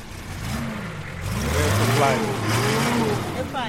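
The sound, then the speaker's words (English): A vehicle engine in a car park, where a huge trailer is being readied, rumbles, then revs up with a rising, throaty whine that holds steady for a couple of seconds before easing slightly, over a low background hum. “Out in the car park, Baraka is preparing a huge trailer to drive to the middle of the bush”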